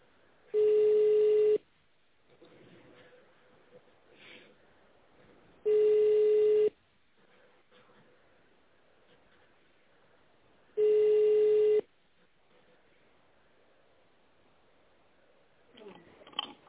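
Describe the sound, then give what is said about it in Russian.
Three evenly spaced telephone ringback tones, each a steady mid-pitched buzz about a second long, separated by roughly four seconds of faint line hiss, heard while waiting for a secretary to answer a call to the United Wagon Repair Company. “Если вы знаете добавочный номер сотрудника, наберите его в тоновом режиме или дождитесь ответа секретаря.”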